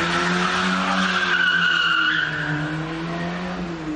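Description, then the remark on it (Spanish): A getaway car with two thieves who had just robbed a jewelry store in Moreda speeds away in the early morning of 31 October, a loud, sustained tire skid, a high squealing screech riding over the steady low roar of the engine for about four seconds, with no voices. “Es la huida de dos ladrones que acaban de desvalijar una joyería en Moreda.”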